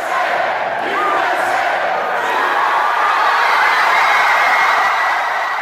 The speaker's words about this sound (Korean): 16년 만에 여자 월드컵 우승 소식에 사람들은 환호를 지르며 기쁨을 감추지 못했는데요.